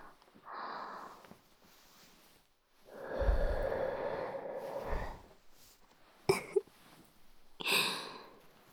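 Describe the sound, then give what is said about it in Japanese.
Close, airy breaths right against the microphone: a soft exhale, then a long, louder breath, a couple of sharp little sniffs and a final breathy puff. No one speaks. “少し息吹きかけただけで、あなたの口に私の吐息が届いちゃう。”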